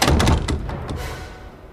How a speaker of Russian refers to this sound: Тот, что был в форме, стал возиться с замочной скважиной, стараясь открыть замок как можно тише. Но эта старая механическая конструкция щелкнула старой пружиной так, что на фоне ночной тишины раздался звук, напоминающий выстрел.